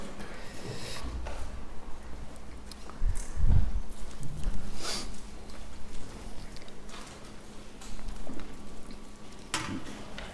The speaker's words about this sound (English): I love the sound of turning pages.